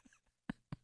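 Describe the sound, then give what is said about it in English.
A man clears his throat in two short, rough bursts a moment apart, with only faint murmuring before them. “You got something in your throat.”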